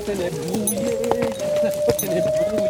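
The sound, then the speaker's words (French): Horse hooves clip-clop at an unhurried walking pace, the knocks sharp, on a horseback journey in the Vercors from Engins to Léoncelle. A steady tone and murmuring voices continue underneath the whole time. “vous emmène d'Engin à Léoncelle pour un voyage chargé d'histoire avec les chevaux du Vercors.”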